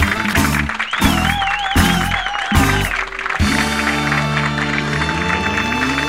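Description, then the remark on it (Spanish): An audience in the gardens of Servicio 16 at Hospital Borda, during a Radio La Colifata broadcast on a somewhat cold day, claps and cheers loudly and steadily, a dense wash of applause with wavering whistles rising above it and heavy, rhythmic low thumps underneath. “Fuerte el aplauso.”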